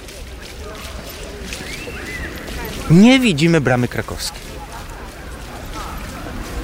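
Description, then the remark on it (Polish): Working fountains on Plac Litewski splash in a steady, hissing wash of water that runs the whole way through, while a person speaks briefly and a short, rising-and-falling cry cuts in halfway. “Tak jak Państwo słyszą, w tle jeszcze fontanny działające, bo to przecież nagranie z piątku, jeszcze nie ten deszcz dzisiejszy, w tle fontanny i kiedy tak staniemy, że będziemy ciągle jeszcze słyszeli te fontanny na Placu Litewskim”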